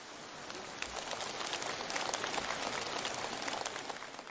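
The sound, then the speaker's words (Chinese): An audience breaks into warm, sustained applause, a dense crackle of many hands clapping at once that holds steady and fairly loud for several seconds, with no voices over it. “鼓掌鼓得很热烈，好像你们都很开悟一样。”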